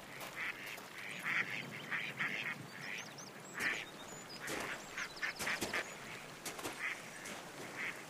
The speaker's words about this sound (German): Der kleine Bach zu meiner Linken wird ruhiger. Eine Entenfamilie schwimmt stolz vorbei.